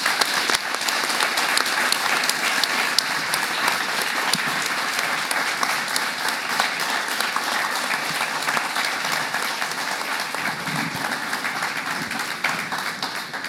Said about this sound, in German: Und das ist dein Applaus.